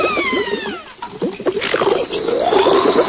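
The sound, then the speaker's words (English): Bubbles blown underwater in an underwater castle gurgle and pop in a quick, continuous stream of watery blips with rising and falling pitch, steady for a few seconds with no talking. “blows bubbles in her underwater castle.”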